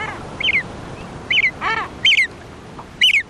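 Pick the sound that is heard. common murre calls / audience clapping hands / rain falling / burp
common murre calls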